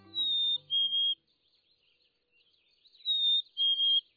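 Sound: chickadee calling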